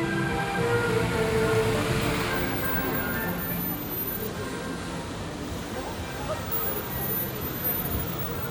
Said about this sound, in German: Der Pfeifton stört. Er soll im Zentrum von Skopje Schädlinge fernhalten.